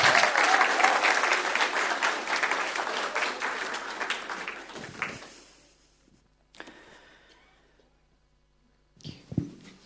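A round of applause from a crowd, dense steady clapping that fades out after about five seconds, followed by a few faint bumps and a brief rustle near the end.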